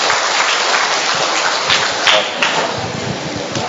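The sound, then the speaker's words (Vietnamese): Sustained applause from a crowd for a group of children about to put on a play, a dense steady patter of many hands clapping throughout, fairly loud, with a few sharper claps standing out near the middle. “Rồi chúng ta cho một tràng pháo tay với thiếu nhi này chúng con, thưa anh chị em.”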